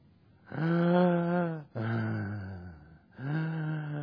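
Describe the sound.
A voice imitates slow, heavy breathing as heard lying in a flotation tank: three long, drawn-out voiced breaths, each lasting about a second, fairly loud, with brief pauses between them.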